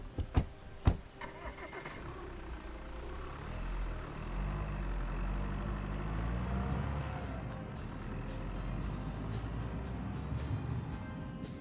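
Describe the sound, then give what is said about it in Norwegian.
A couple of sharp clicks like a car door, then the engine of a long limousine turns over and settles into a steady low rumble as the car drives off, continuous. “Og så setter de seg I bilen og kjører av gårde.”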